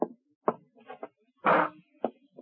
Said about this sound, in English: upstairs from misery, my office at police headquarters walled off from it, until misery walked down the hallway and opened my door.